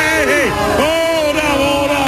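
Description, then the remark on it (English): A loud crowd of fans screams and cheers outdoors in the streets of South Philly, Philadelphia, after a win against the Vikings, overlapping voices whooping and yelling "Go Birds!" in rising and falling bursts, a dense continuous roar of excited shouting throughout. “I think there's just a lot of screaming.”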